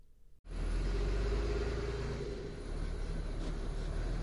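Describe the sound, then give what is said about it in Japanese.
A bus's engine rumbles in abruptly and stays loud, a heavy low drone as the bus pulls up. No voices are heard. “あ、バス来ちゃった。”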